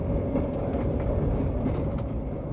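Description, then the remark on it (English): An Indian-made train with air-conditioned coaches, set up by the Indian government, rolls steadily along the rails, a loud, continuous low rumble with faint rattling on top, and no voices. “The entire train is of Indian manufacture.”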